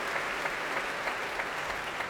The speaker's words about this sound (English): Keith Lockhart bringing the BBC Concert Orchestra to their feet to take the applause from the crowd.